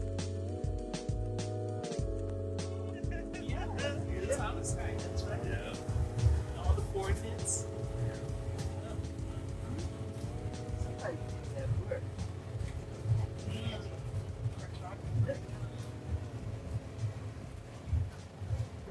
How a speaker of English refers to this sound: Well, we're on a bus trip out to Big Rock Ranch to visit one of our neighbors' property. This is part of our wellness journey here at Project New Village.